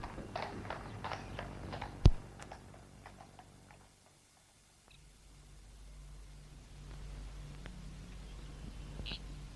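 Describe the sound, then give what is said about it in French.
Horse hooves clatter in quick, sharp beats, then thin out and fade as someone pulls the horse's bridle and it brakes and halts, leaving a low, quiet background with only a few scattered faint knocks. “Tout à coup, sans savoir comment, une force humaine tire la bride du cheval pour arrêter son élan. La bête freine et s'arrête.”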